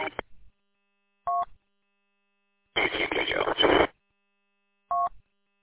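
Two short, steady telephone keypad tones, spaced a few seconds apart, with a burst of harsh, crackly line noise between them and a brief clipped sound at the very start.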